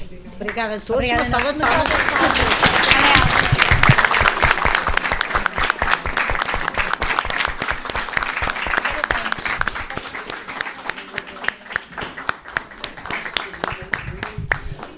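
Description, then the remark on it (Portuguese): An audience breaks into sustained, loud applause after classmates' book presentations, many hands clapping densely for about fifteen seconds before thinning out slightly toward the end. A voice is briefly audible at the very start. “Uma salva de palmas.”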